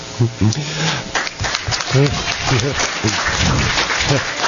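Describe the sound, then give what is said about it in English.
An audience applauds with dense, steady clapping that fills the whole stretch, while voices call out and talk over the noise. “Then we're going to count up the number of seconds of the applause, and it'll be more than me having spoken, which is probably good.”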